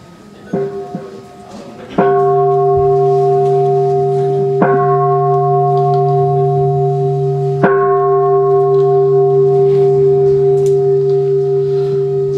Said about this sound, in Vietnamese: Thầy sẽ điều hành buổi lễ cho ba tiếng chuông.